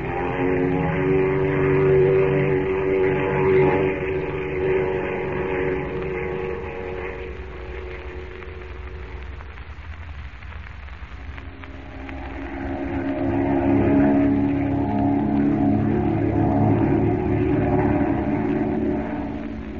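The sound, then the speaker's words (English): A steady, droning airplane engine hum with strong low harmonic bands, dipping slightly in the middle before swelling back up, continuous and fairly loud throughout with no voices. “Well, now that we're safe and comfortable in the plane, Miss Chase, you must be happy to be on your way back to America.”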